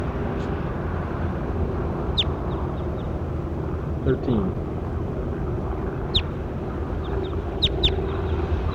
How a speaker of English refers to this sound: That was bird 13. That's him again.